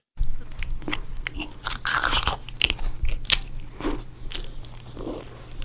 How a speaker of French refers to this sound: Alors, c'est pas loin, mais effectivement, c'est quelqu'un qui mange.